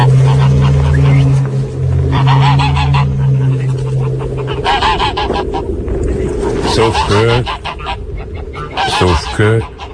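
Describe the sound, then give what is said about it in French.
Geese honk loudly and repeatedly in a noisy flock at a farm in the mid-mountains of Haut-Rhin, France, about 500 metres up, among fir trees by a river, their harsh calls overlapping throughout, with a steady low hum underneath and a voice briefly speaking partway through. “Ouais, des oiseaux, il y a tout pour être heureux.”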